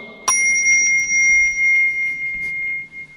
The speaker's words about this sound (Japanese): りんがもうね、楽器のように和尚様の歌声をさらに魅力的にしてくれてますけど、 トントントンがね、 今トントントンでしたね。 その後ですね、 はい、 チンチンチンとこう来るだけですよ。